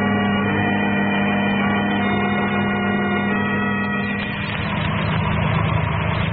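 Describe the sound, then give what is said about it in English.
A car engine idles with a steady, low rumbling hum that grows slightly rougher and louder toward the end as the car pulls over to the curb; no voices are heard. “The car with Herbert and the girls just pulling over to the curb, Dr.”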